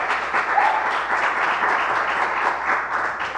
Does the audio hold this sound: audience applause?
yes